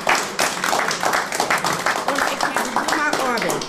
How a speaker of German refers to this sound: Schafft nicht jeder. Nein, Applaus, Applaus, Applaus.